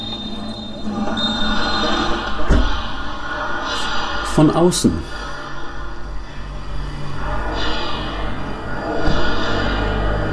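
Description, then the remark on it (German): A muffled electroacoustic composition played by a transducer on a window pane, heard through the glass outdoors: a steady rumbling drone, a sharp knock, then a cluster of squealing, metallic tones midway. A voice speaks briefly over it. “So, das heißt, wir hören jetzt den Klang, draußen fährt ein Auto vorbei, wir hören jetzt den Klang durch die Fensterscheibe in den Außenraum.”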